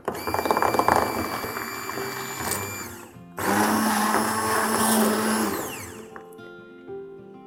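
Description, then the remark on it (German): A blender mixes a dressing thinned with a little water, running in two loud motor bursts with a brief pause between, its whirring pitch shifting and then winding down to a stop; no one speaks. “Das mixen wir jetzt auch. Mit etwas Wasser verdünnen.”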